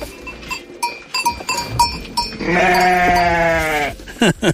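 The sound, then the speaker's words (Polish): A Cameroon sheep, a woolless breed from a small hobby flock kept by Jan Makochon in Żurawce, lets out one long, wavering bleat, preceded by a few light clinks and knocks, like a small bell or hooves moving around. “Pan Jan hobbystycznie hoduje małe stadko owiec kameruńskich.”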